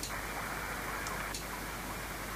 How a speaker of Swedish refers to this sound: Och här hör man ett svagt klick i riggen och lite förändringar i ljudet som indikerar att den är av respektive på.